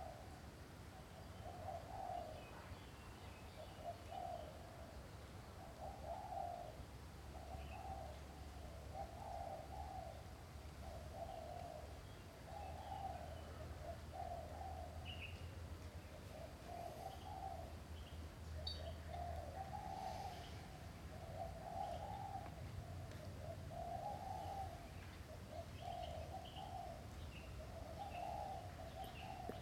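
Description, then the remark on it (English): Doves coo steadily outdoors outside a building, soft repeated calls in a slow rolling rhythm, with a few faint bird chirps scattered above a low background hum. “Your eardrum is vibrating and making contact with the sound of the birds and the creatures outside of the building.”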